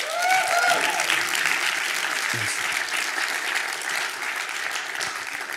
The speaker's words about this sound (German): Können wir ihm einen kurzen Applaus geben, unserem König?